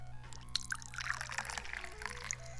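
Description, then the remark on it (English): Tea pours steadily into a cup, a continuous liquid stream with bright splashing and gurgling flecks throughout, no voices present, over a faint low hum. “I gotta pour the tea.”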